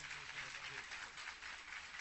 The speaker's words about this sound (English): So, everybody give our pastor an applause this morning for all he's done for us.